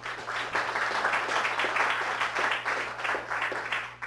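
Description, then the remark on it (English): A crowd applauds steadily for about four seconds for the speakers at a New York Salon event, many hands clapping in a dense, even patter with no voices on top, accompanied by a faint low electrical hum. “So please give a round of applause for our speakers.”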